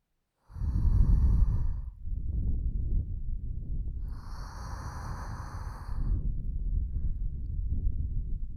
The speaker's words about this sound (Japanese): じゃあ耳で私たちの吐息を感じて、金玉の快楽攻めを味わいながら。